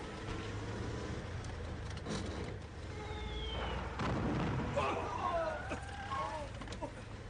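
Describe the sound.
Several heavy booms of mortar shells bursting, aimed at a car a few kilometres from Sardasht, Iran, the strongest around the middle, over a constant rumbling roar of vehicle and battle noise, with muffled voices in the mix.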